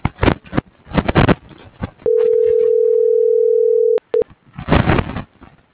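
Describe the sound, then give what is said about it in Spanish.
A steady telephone tone holds for about two seconds, followed by two short beeps, signalling a call being transferred to voicemail, with muffled speech-like sounds before and after the tones. “Buzón de voz. Tu llamada está siendo transferida y se cobrará al terminar los tonos siguientes.”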